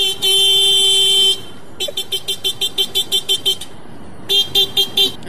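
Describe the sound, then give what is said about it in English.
A man in Brazil imitates a motorcycle horn: one long, steady high-pitched honk, then a quick string of about nine short toots, and a final burst of three or four loud beeps. “We got on this conversation because we played some audio from a dude in Brazil that just does a spot-on horn impersonation. Yes. A motorcycle horn.”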